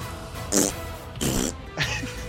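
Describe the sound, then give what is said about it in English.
Three short, sputtering raspberry blasts made with the mouth, imitating farts while watching the anime Keijo, each a buzzy, breathy burst of about a quarter second, spaced evenly with brief pauses between. “Can I ask, how often do you guys make fart noises when you're with your mouth as you watch Keijo?”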